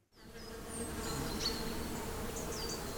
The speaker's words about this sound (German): Eine blühende Frühlingswiese voller Bienen, Hummeln und Käfern, das wird leider immer seltener.